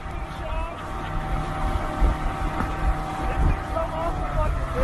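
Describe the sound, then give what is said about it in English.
A motorboat engine drones steadily, its low rumble mixed with rushing water and wind buffeting the microphone, with a voice faintly present underneath; a shark is tied with a rope to the boat's stern, bouncing along in its wake, in Florida. “In the wake of a boat is a shark tied with a rope to the stern, bouncing along in the water.”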